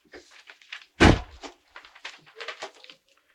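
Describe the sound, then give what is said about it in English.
A door shuts with one solid thud, loud against quieter surrounding sounds. Faint voices and soft shuffling noises come before and after it. “No, close the door.”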